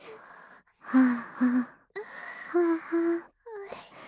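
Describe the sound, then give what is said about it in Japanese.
A voice imitates heavy panting: four loud, breathy voiced exhales in two quick pairs, with softer airy breaths and a rising whimper-like sound between them. “はあ、はあ、はあ、はあ、息遣い荒くなってるよ。”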